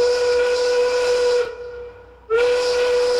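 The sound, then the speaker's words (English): A loud quitting-time factory steam whistle blasts with a steady shrill tone and hiss, cuts off briefly, then sounds again at full strength. No one speaks. “So stand up on that table like Norma Rae and get ready to gift with gusto when in five, the whistle blows.”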